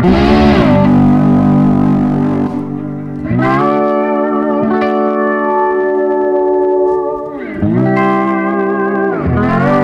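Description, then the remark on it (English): Sustained electric guitar chords ring out through a spring reverb as it is tapped, with three strummed changes that swell and linger into a washy tail. The playing is loud, with no talking. “Oh, let me tap that again. Spring reverb.”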